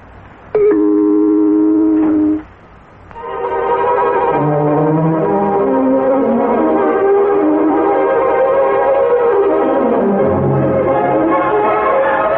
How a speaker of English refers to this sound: And an accurate time signal. When you hear the gong, it will be precisely 8:30.